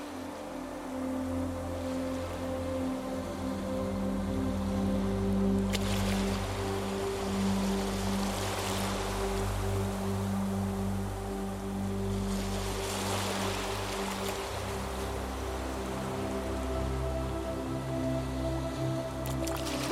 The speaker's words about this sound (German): Das Rauschen der Wellen klingt wie eine beruhigende Melodie in deinen Ohren.